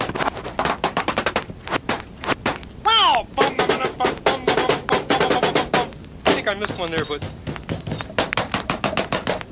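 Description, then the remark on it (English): Quick, rhythmic knocking, like knuckles rapping on a door in a steady groove of sharp taps, with a voice sliding up and down in pitch cutting in a couple of times. “Groovy sounds sort of sounds like somebody knocking on the door.”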